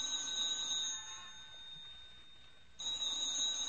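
A telephone rings with a shrill, high-pitched electric bell tone, fading somewhat in the middle before a loud burst of ringing returns near the end. No one speaks.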